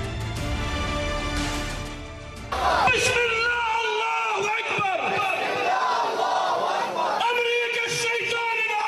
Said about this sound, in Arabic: على وقع هتاف أمريكا الشيطان الأكبر، شهدت مخيمات الشمال مسيرات حاشدة دعما لغزة ورفضا للمجازر والإبادة التي ترتكبها قوات العدو في غزة والاعتداءات المستمرة على جنوب لبنان.